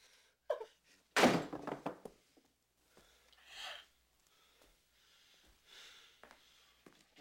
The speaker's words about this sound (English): Yeah, I think that the hitting of the door, I gotta come home for this, I think was, I'm supposed to go and get my coat, and I just whacked the door there and broke stuff, yeah.